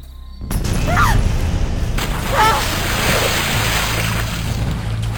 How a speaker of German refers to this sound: Waren das Explosionen? Kamen sie näher?